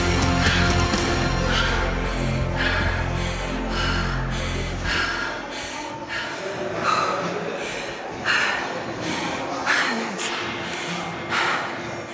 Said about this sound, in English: Anybody breathing hard right now? I started breathing hard.